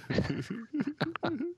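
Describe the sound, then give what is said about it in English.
A person vocally imitates the sand people of Tatooine barking at each other, with a quick run of about five short, voiced yelps, fairly loud, with small gaps between them. “Yeah, they hear there's another Skywalker in town, they'll start barking at each other and take off.”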